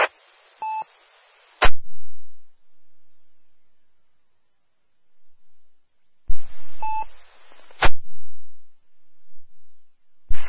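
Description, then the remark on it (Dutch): Two short bursts of radio static on the CQ Meppel amateur radio net, each carrying a brief dual-pitched telephone dialing tone as the telephone check-in point is used and ending in a sharp click, separated by several seconds of quiet; no one speaks. “Hey, nou dan ga ik toch even naar de telefonisch inmeldpunt.”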